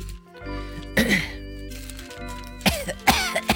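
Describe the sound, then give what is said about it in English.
Several harsh coughs burst out right into the microphone, one early and a tighter pair near the end, over a steady humming tonal background. “I'm prepared to hear myself cough in the microphone.”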